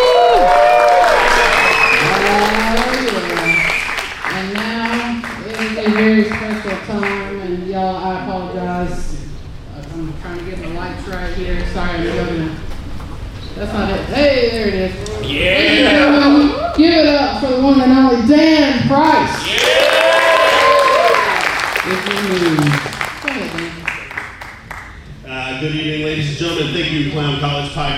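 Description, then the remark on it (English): An audience at a live show applauds the first half as the second half begins, with steady, dense clapping that lasts the whole stretch, while loud voices, cheering or calling out, rise and fall over the top of it. “Can we get a round of applause for that first half?”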